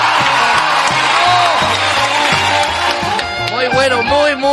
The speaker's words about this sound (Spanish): Oye, terminó el festival de imitaciones. Fuerte el aplauso para los participantes.